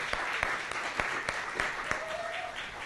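A crowd applauds the band steadily, dense clapping with sharper individual claps standing out, plus a brief whistle-like tone partway through. No one speaks.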